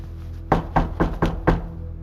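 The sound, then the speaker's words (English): Five quick, evenly spaced knocks on the wooden door of room number 4, fairly loud, over a low steady background hum with no one speaking. “Should I knock, or should I listen behind the door for a while?”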